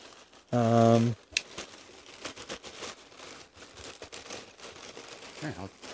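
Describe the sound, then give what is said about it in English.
Continuous crinkling and rustling of packing paper as each sheet is checked while unpacking a package, a busy scratchy texture running for several seconds, preceded by a brief loud humming tone at the start. “More paper. Lots and lots of paper.”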